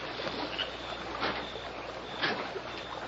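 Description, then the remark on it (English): The oars of a rowboat, rowed poorly, dip and splash in river water at a slow, uneven stroke, a few soft bursts over a steady watery wash, quiet with no voices. “It not sound like that. Sound like oar splash.”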